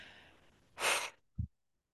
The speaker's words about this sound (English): Big deep breath.